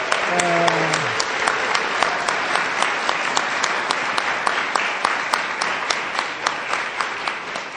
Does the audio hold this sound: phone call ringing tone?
no